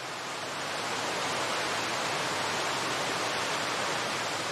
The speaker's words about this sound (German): Du bekommst eine leise Ahnung davon, welche beeindruckende Kraft vonnöten ist, um die Millionen Liter Wasser sekündlich in die Tiefe stürzen zu lassen. Vielleicht magst du dich eine Weile dem berauschenden Lied des Wasserriesens hingeben.